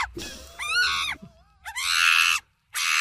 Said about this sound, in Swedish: Det är alltså inte en apa vi har i studion, utan det är en ganska dålig ljudeffekt som jag har hittat på nätet. Och sen tryckte in i vårt mixerbord och så trycker på det till och från.